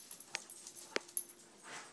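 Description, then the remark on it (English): A small dog named Ash sneezes onto someone's foot, a few short, sharp snorting bursts spaced irregularly over a quiet background with no one talking. “and Ash just sneezed on my foot.”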